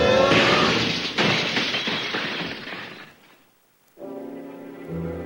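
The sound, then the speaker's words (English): A loud, bright crash of window glass shattering as a lion dives through a window at the end of a long hall in a witch's castle, with a crackling, tinkling clatter that fades over a few seconds into near silence before a low, steady tonal sound begins. “Arms and legs pumping, he bolts down the long hall and dives through a window.”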